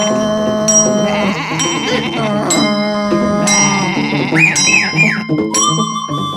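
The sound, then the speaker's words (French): Goats bleat almost without pause, several wavering, nasal cries overlapping one another, fairly loud, with a faint ringing tone in the background and no voices. “il avait aussi les coqs, les poules, le bêlement continuel de la chèvre.”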